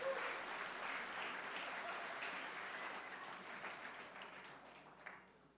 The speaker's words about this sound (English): So let's hear it. Don't clap too loud because his ears are sensitive.